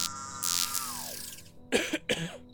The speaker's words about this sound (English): I heard that cough. Hello? Who's there? I don't have any cough drops. I'm sorry.